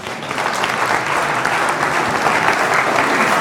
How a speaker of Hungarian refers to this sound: Van egy úr, aki magától jelentkezik, parancsoljon. Már a bátorságáért is meg kéne tapsolni.